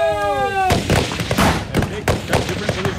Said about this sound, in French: Le tir, et ils retournent le tir immédiatement.